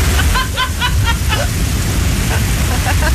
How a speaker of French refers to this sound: Tout de suite, on écoute de la pluie de Norvège. En ce moment, il est numéro 1 dans le hit de la pluie.